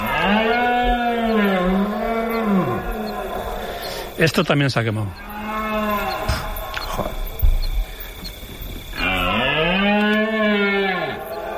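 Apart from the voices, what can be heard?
red deer stags bellowing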